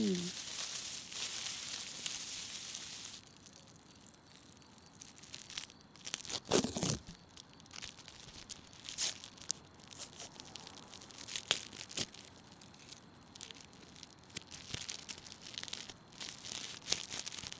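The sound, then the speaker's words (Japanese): Plastic film tearing and crinkling in quick bursts, with sharp crackles and rustles scattered over several seconds as the plastic wrapper of a pickled plum (umeboshi) onigiri rice ball with nori is pulled apart, one louder rip standing out midway. “どうよ、海苔が包装に一切残ってないだろ。”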